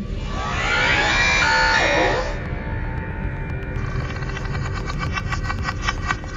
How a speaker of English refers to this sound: When delving deeper into Subnautica, you may hear this cry.